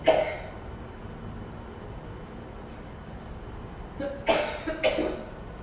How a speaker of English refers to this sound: Get a little drink of water and raise your hands above your head. This is a great cough. This is the mother talking. But that'll stop your coughing often.